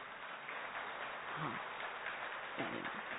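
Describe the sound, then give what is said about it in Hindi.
A crowd claps steadily in a dense, even wash of applause, with a few louder swells and faint voices mixed in underneath. “और आप बहुत व्यस्त थे लगभग 12-13 दिन से, फिर भी आप समय निकाल कर हमारे मध्य आए, तो हमारी तालियों की गड़गड़ाहट कैसी होनी चाहिए।”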